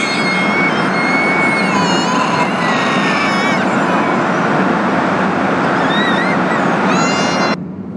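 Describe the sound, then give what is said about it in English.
A loud, unbroken roar of a car driving through the 620-metre Jack Lynch Tunnel under the River Lee in Cork with the windows open, high whining tones drifting over the rumble, before the noise drops suddenly near the end. “We're about to enter the Jack Lynch Tunnel, 620 metres long, under the River Lee in Cork, with the windows open.”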